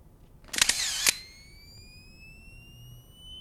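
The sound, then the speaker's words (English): A camera flash fires in a dark apartment with a sharp, bright burst and clicks, followed by a thin, high-pitched whine that slowly climbs as it recharges. Fairly loud, with no talking. “The flash reveals only his slovenly abode, and so he proceeds into the room.”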